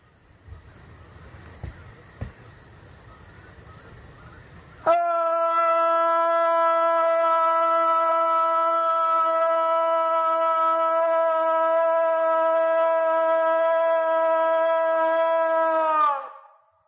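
The so-called Illinois Howl, recorded at night in a backyard: a loud, steady howl starts abruptly over faint insect chirping and holds one unchanging, buzzy pitch for about eleven seconds before cutting off, with no talking.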